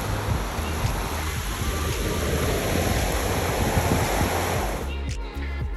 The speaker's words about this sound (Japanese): なんかサラサラな砂浜じゃないのよね。もちろん海の方に行けばもっと柔らかいと思うんですけど、潮風も気持ちがいいし波の音も最高でしょ。